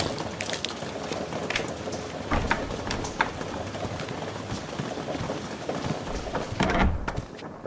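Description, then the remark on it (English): Heavy rain pours steadily during a storm, a dense hiss broken by irregular louder patters and splashes, with a stronger gust of downpour near the end. No one speaks. “Like he's not bothered by the rain, even though it felt sharp as knives.”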